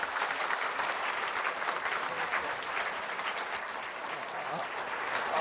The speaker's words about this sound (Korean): 오늘 수고하신 모든 분들께 박수 부탁드립니다.